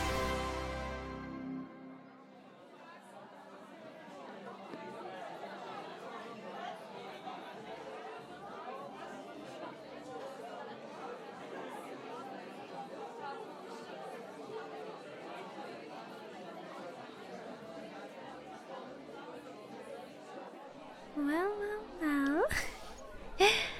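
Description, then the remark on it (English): Steady, indistinct crowd chatter fills a bar, a continuous murmur of many overlapping voices at a moderate level, with a few brighter clinks and sharper sounds near the end. “Or am I really seeing my favorite former student at the bar?”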